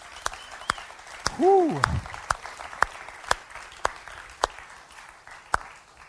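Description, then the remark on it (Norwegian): An audience in a church applauds the worship singers, a reverberant, dense steady patter of many hands with sharper individual claps standing out, and a brief whooping cheer rising early on. “Skal vi gi dem en skikkelig applaus til?”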